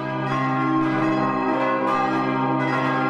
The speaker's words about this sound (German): Die letzten 5 Minuten kommen Václav und Jan dazu, die beiden großen Glocken. Die beiden Glocken brauchen je 2 Glöckner, um das tonnenschwere Gewicht in Gang zu setzen. Immer schneller schaukelt das Glockenjoch, bis schließlich der Klöppel anschlägt.